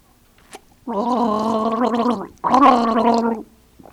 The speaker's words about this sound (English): The fourth sound is water in the mouth.